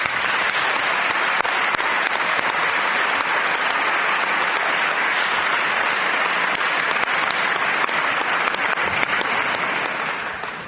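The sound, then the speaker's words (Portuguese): Sustained applause from a large audience for elected deputies, including those from the Europe constituency in Jersey and from outside Europe in Timor. The applause is dense and steady for about ten seconds, with many individual claps crackling through, tapering slightly at the end. “Para todos, peço o vosso aplauso.”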